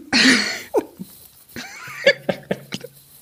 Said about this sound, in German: Führ das mal aus, weil ich muss gerade mal husten.